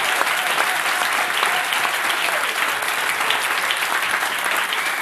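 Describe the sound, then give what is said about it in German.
A live audience of FC Bayern Basketball fans, in the canteen on the FC Bayern grounds, applauds steadily, a dense, loud wash of clapping that holds at an even level for the whole stretch, with no voices standing out. “Und das Publikum ist da, hat gute Laune.”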